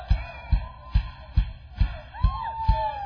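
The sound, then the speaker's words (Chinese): An audience cheers and whoops together in praise of God, over a steady, rhythmic low beat, with rising shouted cries swelling near the end of the short burst. “OK， 用欢呼的声音赞美我们的神，哈利路亚。”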